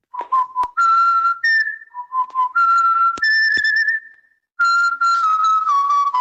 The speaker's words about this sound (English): And have you heard of the WhatsApp whistling craze?